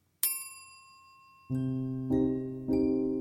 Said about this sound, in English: A bell rang. Okay, that's 20 minutes, our host said, giving us an opportunity to rearrange and cuddle with new people.